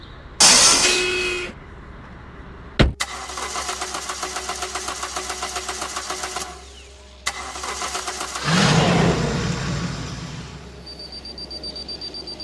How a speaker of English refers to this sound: Over there, a hover car.